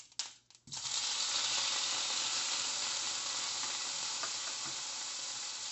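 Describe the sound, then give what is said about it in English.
After a few soft clinks, raw shrimp, large, previously frozen and cut into bite-sized pieces, hit a hot pan and burst into a loud, steady sizzle that holds evenly to the end, a bright, crackling hiss of searing. “And now I'm going to sear the shrimp, remove it, and cook the rest of the ingredients.”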